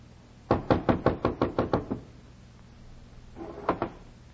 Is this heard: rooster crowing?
no